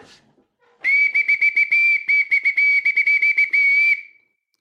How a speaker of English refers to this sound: That, my friends, is a bosun's whistle that I happen to have on my desk